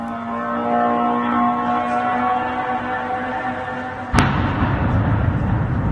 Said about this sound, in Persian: با صدای زوزه موتور و انفجار دست کم 6 پهپاد انتحاری ساخت ایران، اهالی شهر بیلاتسرک و در 100 کیلومتری جنوب کییف شب پر استرابی سپری کردند.